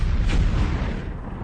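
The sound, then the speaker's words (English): A loud burst of explosion and gunfire sound effects from the video game Battlefield Bad Company by Electronic Arts and DICE, a dense, roaring blast with heavy low rumble that holds steady for over a second before easing slightly. No voices. “Incredible explosion effects.”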